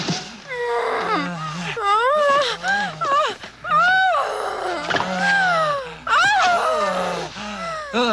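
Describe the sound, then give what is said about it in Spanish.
Loud, wavering howls from the 1981 film Porky's rise and fall in pitch, several overlapping in long drawn-out waves over about eight seconds, with a low rumbling hum underneath. “espere, tenemos que dejar el aullido.”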